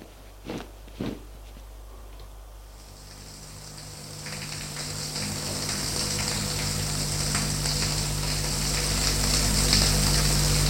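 Two soft thuds, then a shower turns on as a woman goes to take a shower; water hisses steadily, a broad spray that swells slightly louder and keeps running to the end, with no voices.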